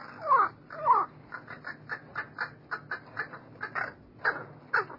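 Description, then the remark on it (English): A crow caws repeatedly, with two longer, harsh calls at the start followed by a series of shorter, rhythmic caws, fairly loud with no talking. “And a crow's song is particular to its social group.”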